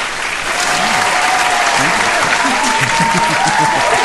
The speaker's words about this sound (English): Always nice when your lead singer gives you some love, too, man. She was clapping as loud as our audience there.